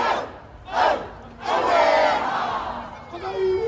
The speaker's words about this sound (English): The crowds kept coming. Throughout the day, spontaneous hakas broke out. Maori war cries rallying supporters to do battle with a government they say is undermining them.